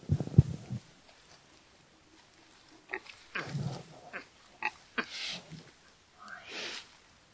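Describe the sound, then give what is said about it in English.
Bruce, a pig living as a resident at Animal Place, gives soft, low grunts in a few short bursts, interspersed with faint snuffling and rustling noises, with quiet gaps between them. “Are you the best pig in the world?”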